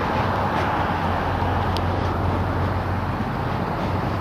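A steady, dense roar of traffic on a busy street, heard while walking alongside it, with a deep low rumble, loud and continuous throughout, with no voices heard.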